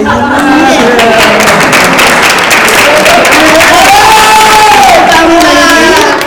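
A crowd bursts into sustained applause and loud cheering, with dense clapping and rising shouts and whoops throughout, steady and loud from start to finish.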